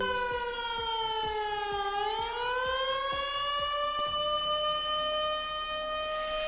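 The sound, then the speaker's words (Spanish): A flood warning siren in Sant Llorenç d'Escardassà, Mallorca, sounding at night, wails steadily and loudly, its tone sagging slightly then slowly rising and holding high. Faint regular clicks tick underneath, and no one speaks. “Preocupa la previsión del tiempo tras una noche en la que en Sant Llorenç d'Escardassà ha sonado la alarma por riesgo de inundaciones y que esperemos no vuelva a sonar”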